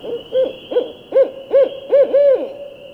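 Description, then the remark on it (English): A barred owl's caterwauling call, echoing through a lobby: a run of six rising, wailing hoots in quick succession, growing louder toward the end, with a steady high-pitched hum running underneath. “the caterwauling calls of a barred owl, like a giant squeegee being dragged across a window, echoed through the lobby and interrupted my reverie.”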